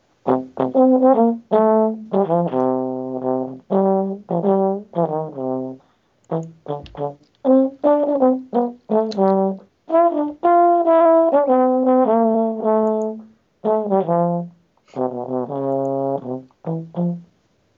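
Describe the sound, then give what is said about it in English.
A solo horn plays a lively melody live, moving through sustained and short notes in phrases separated by brief pauses, loud and bright with no talking. “What better way to end the show than with a solo by the Horn Doctor?”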